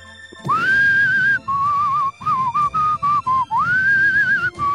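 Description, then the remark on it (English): Someone whistles a song melody, opening with a rising swoop into a held note, then a run of short separate notes, and finishing with another sliding, sustained phrase. “Can you whistle it again?”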